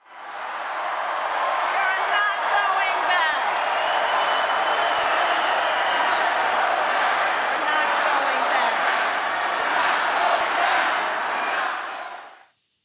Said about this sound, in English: I want you to just hear the crowd, a quick snippet of Vice President Harris talking to a huge crowd out in Las Vegas, a key swing state this weekend.